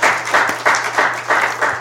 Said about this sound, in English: And I think we owe them a round of appreciation applause.